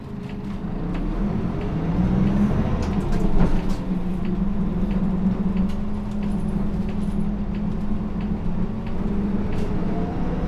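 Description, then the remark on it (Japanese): A bus engine rumbles and rises in pitch as a route bus in Japan, bound for the Ebina Station terminus, pulls away from a stop, turns right and accelerates, a steady low drone with faint rattles and no talking. “はい、発車します。右回ります。”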